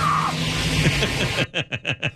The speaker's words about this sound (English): Yeah, it hurts when you get dragged by a car, doesn't it? Sounds like it? The woman's being dragged by the hair.